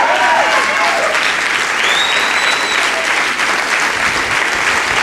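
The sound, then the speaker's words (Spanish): An audience applauds loudly and steadily for about five seconds, a dense wash of clapping hands with a few faint high whistles rising above it. “Alguien es capaz de ponerse de pie y aplaudir.”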